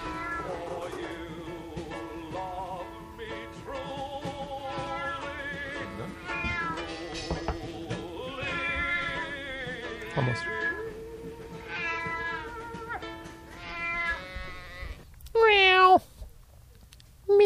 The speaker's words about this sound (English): I'm like a cat that actually says meow. Just says it. Like casually as it exhales from its cigarette? Meow. Meow.